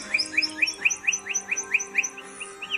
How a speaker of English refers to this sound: The bird known as the troubadour of the plains is the state bird of Colorado, and today's Talkin' Birds featured feathered friend, Calamospiza melanochoris, the lark bunting.